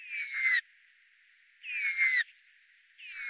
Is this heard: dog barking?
no